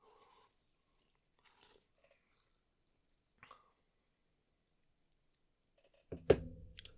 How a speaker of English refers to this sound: Okay, that smells like cucumber with a little bit of that's a good sign. Sugar behind it. Maybe. You know? Go ahead and take a sip here.